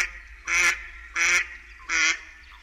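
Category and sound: bird, mallard duck quacking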